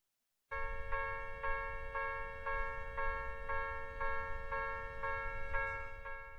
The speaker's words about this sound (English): Pretty sure this is the sound of a train crossing. In Japanese, we express it as, Kan, kan, kan.